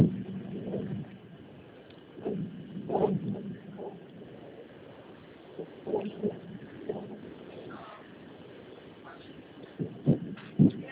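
vehicle, inside a moving bus

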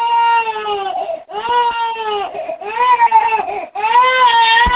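human body sound, baby crying

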